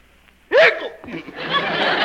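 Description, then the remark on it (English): One sudden, loud hiccup pops out after a brief quiet moment, followed by a stretch of breathy, chuckling vocal noise. “Still got the hiccups, eh,”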